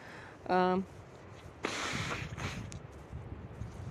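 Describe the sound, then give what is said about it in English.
A breathy sniffle drawn in through the nose, followed by a shorter second sniff, preceded by a brief voiced hum, outdoors in cold weather against quiet background noise. “Excuse me, sniffles.”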